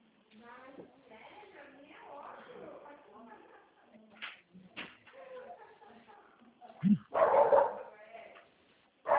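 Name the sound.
dog barking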